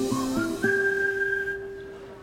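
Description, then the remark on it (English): A whistle sounds alone: three short rising chirps in quick succession, then one long sustained steady tone that gradually fades out. “Every time you hear that whistle, you know what's going on.”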